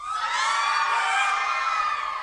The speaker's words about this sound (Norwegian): Så nydelig, altså. Det var et vakkert skrik.